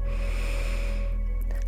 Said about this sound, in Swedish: Så vi tar dem en gång till. Andas in.